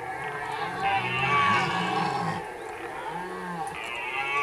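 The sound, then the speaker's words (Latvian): A red deer stag bellows during the rut: a long, deep, groaning roar followed by a shorter second call, carrying over steady outdoor background noise. “Briežiem sēja briežu baurī, principā, tas ir ūdens, septembrs.”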